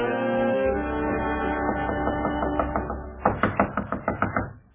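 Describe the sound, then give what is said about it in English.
Children knock on the wooden door of their father's home: a series of firm knocks, about a half-dozen loud raps in quick succession near the end, preceded by softer taps, all over sustained musical tones. “Father! Father! Open the door!”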